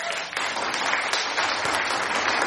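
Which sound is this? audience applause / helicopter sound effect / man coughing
audience applause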